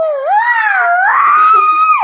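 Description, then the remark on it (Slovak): A child's voice imitates a peacock's call with one loud, drawn-out, high-pitched wail lasting about two seconds. It rises and wavers before dropping off sharply at the end. “A ako robí pau?”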